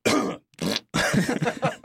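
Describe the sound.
A voice imitates a man at a family gathering coughing to cover up a fart: a short harsh burst, a pause, then a longer run of raspy, sputtering vocal noises, fairly loud.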